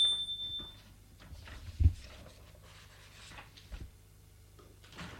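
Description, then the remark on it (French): An apartment door being opened after the bell is rung: a few soft clunks and faint rustling handling sounds, with a firmer knock near the middle and another later on. No one speaks. “C'est elle qui l'a ouvert.”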